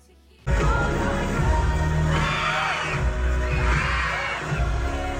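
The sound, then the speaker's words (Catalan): A cinema audience watching a concert film bursts into loud, sustained high-pitched screaming over the film's thumping, bass-heavy music, with two swelling waves of shrieks rising and falling in pitch. “Aquests crits no és ella ni les coristes, no. És el públic de la sala de cine, no?”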